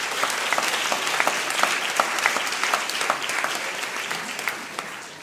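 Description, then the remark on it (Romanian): An audience applauds steadily, many hands clapping in a dense, continuous patter with sharper individual claps popping out, holding at an even level for several seconds before easing slightly at the end. “Mulțumim pentru tot ce faceți și să-i aplaudăm încă o dată.”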